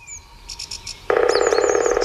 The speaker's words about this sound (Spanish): pero quiero que oigamos un sonido de grullas que no es el habitual aquí en el sur de Europa, sino el del norte. Nos vamos a ir a la taiga, a Suecia, donde escuchamos los nidos donde las grullas gritan de una en una o de dos en dos, no de mil en mil.